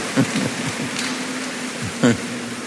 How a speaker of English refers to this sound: All the royal fathers here, they are wonderful children of God. Let's give the Lord a big round of applause for all our royal fathers.